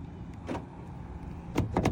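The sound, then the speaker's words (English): Car door locks actuate with a soft mechanical clunk as the car is locked with a key fob, then a quick cluster of two or three sharper clicks close together, against a low background rumble. “And then I'm gonna lock it back up.”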